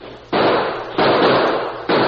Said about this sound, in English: We can hold them off until the Lazy Bee riders hear the shooting.